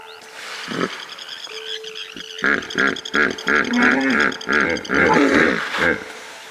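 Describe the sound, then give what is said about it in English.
A hippopotamus bellows in a loud series of rhythmic grunting roars, building after a couple of quieter low rumbles at the start. “Cocaine hippos.”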